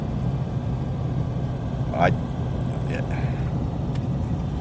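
Steady, low road-and-engine rumble from inside a car being driven to an interview, broken by a few brief squeaks and clicks that rise over the constant drone.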